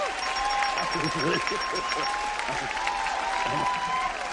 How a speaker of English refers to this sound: This is a historic moment in this show. And everyone's applauding.